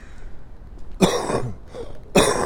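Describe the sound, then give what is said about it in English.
Two sharp, raspy coughs, a little over a second apart, with quiet hiss in between and no talking. “Still got that hack and cough.”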